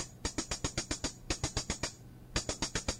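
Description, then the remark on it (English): Three quick bursts of crisp, bright hi-hat hits from a drum machine, each run of closed ticks playing in an even, rapid rhythm with short pauses between groups. No one speaks over them. “And these are hi-hats.”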